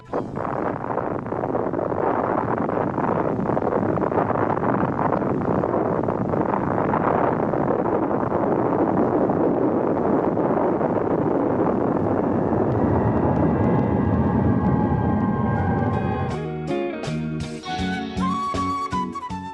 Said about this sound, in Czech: Slušamo snimak eksplozije atomske bombe.